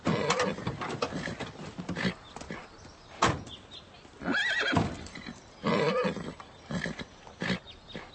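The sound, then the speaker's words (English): A horse whinnies and neighs in several loud bursts, with snorts and shuffling movement in between. “Don't you like horses?”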